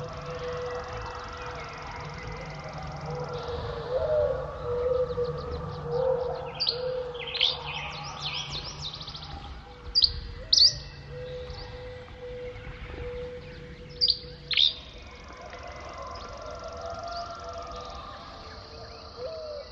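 A dawn chorus of birdsong on a morning in the Methow Valley, eastern Washington state: many chirps, trills and whistles overlap over a soft outdoor hush, with a few sharp, louder calls standing out midway.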